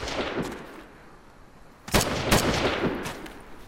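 Several sharp gunshots ring out, a scattered burst early on, then two loud cracks near the middle followed by more rapid shots with echoing reverberation.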